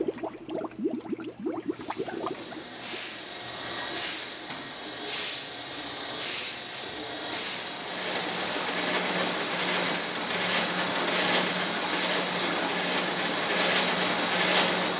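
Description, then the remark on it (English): Brief irregular bubbling and popping of CO2 gas coming off beer fermentation gives way to clattering bottling machinery at the Lakefront Brewery in Wisconsin, with rhythmic clinks and hissing bursts over a steady mechanical whir that grows louder and more continuous, like bottles moving along a line. “If you have trouble recognizing those sounds, they're from the beer-making process, the bubbling of the CO2 gas coming off the fermentation process, and some bottling sounds from our tour from the Lakefront Brewery here in Wisconsin.”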